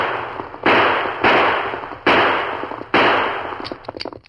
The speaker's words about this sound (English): He turned, and seeing the masked man moving closer, he fired.